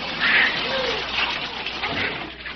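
Water gushes steadily from a hose stuck in a car's glove compartment, a continuous hissing, splashing spray that holds at an even, fairly loud level for the whole moment with no voices over it.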